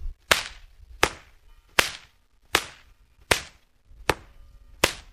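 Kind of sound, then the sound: tool, whip cracking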